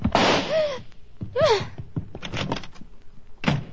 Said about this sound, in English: With a slam of the door, Miss Loring was gone.